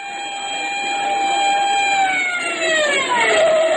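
A police car and ambulance siren wails on a long steady tone, then slides downward in pitch as the vehicles pull up at the scene of a street accident, with a low engine rumble underneath and no talking.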